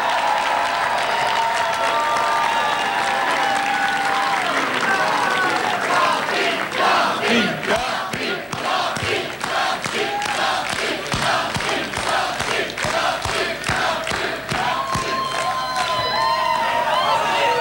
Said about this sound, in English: Big round of applause for Bob Duffy.